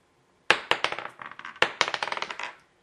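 Dice clatter across a table in two quick rolls for a bonus attack with advantage, each a bright, rattling burst of small hard clicks that bounce and fade, with no voices.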